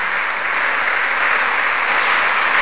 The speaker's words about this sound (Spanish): Otro aplauso al Señor, ¿eh? Otro aplauso al Señor.